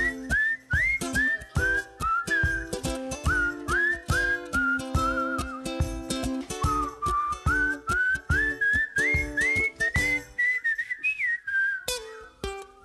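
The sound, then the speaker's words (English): A clear whistled melody glides from note to note over a steady, rhythmic instrumental backing, carrying a bouncy tune for several bars with no voices. “Sing or whistle with me.”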